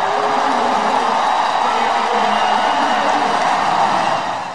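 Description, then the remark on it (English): A loud, sustained roar from a large stadium crowd at a Chicago White Sox game as a player comes into the game, a dense wash of cheering voices that holds steady for several seconds before easing slightly at the end. “You hear the crowd roar as he comes into the game.”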